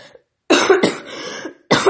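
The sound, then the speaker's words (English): Three loud, harsh coughs from a person who is a little sick, with the middle one trailing into a rougher, drawn-out hack before a final sharp cough. Nobody speaks. “So I'm a little bit sick, guys. We're coughing.”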